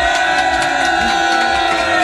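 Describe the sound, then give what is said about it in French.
A group of studio guests on the radio station ONFM cheers and whoops together as a last farewell greeting, live on air, in a steady, loud burst of voices, sustained for a couple of seconds with no individual words standing out. “Les invités, est-ce que vous pouvez faire un dernier petit coucou à ONFM ?”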